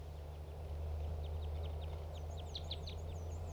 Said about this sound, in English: These are wild birds calling, the ones in the trees.